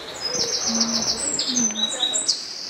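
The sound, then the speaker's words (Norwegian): Several birds sing and chirp outdoors in spring, bright high twittering phrases repeating over a steady background hum, with a lower cooing call weaving in beneath. “Fuglene synger, foråret springer ud, og temperaturerne stiger.”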